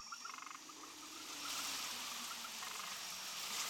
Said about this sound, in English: Now it's raining.